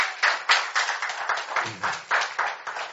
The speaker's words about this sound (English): How many of you believe that? Give the Lord a clap offering. Amen.